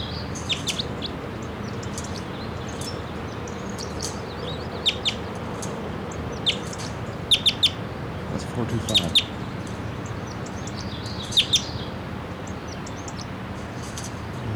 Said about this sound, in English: Little song phrases there about wild man, lone man, it's only about 20 feet up. Stop. They're coming down, a number of crossbills are coming down. I'm not sure the number of them, but there's a female and a male.